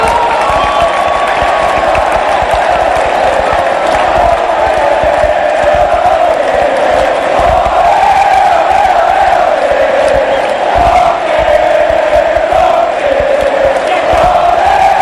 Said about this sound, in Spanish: La ovación, el grito y la emoción es para uno, para el hincha de Olimpia.